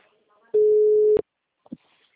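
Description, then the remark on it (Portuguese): One loud, steady telephone ringing tone on the line: a single low, unwavering hum lasting just over half a second, followed by a sharp click and a few faint murmurs. “tá chamando.”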